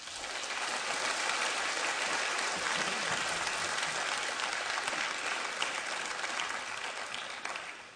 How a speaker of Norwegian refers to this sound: Skal vi gi han en applaus?